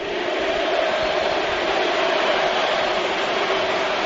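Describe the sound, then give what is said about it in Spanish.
The crowd at the Estadio Santiago Bernabéu gives a sustained ovation for Andoni Cedrún's speech, a dense, steady roar of applause and cheering that holds at an even, loud level for about four seconds with no distinct voices. “Hay ovación cerrada al discurso de Andoni Cedrún.”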